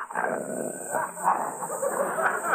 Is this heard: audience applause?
no